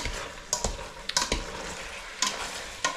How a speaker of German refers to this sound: Und geben jetzt die Wurststückchen dazu. Können sich nämlich auch noch ein bisschen anbraten.